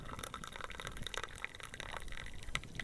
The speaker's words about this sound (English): And then we top it off to kind of the desired strength with this hot water from the tap on the samovar. Go ahead and do that.